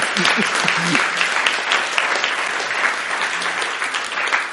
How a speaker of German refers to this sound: Und ich verleihe euch als besondere Auszeichnung diese Krone. Ah, Applaus vom Mob.